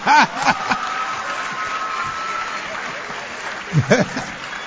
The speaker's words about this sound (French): Mais pourquoi des bonnes idées comme ça vous n'applaudissez pas? Applaudissez.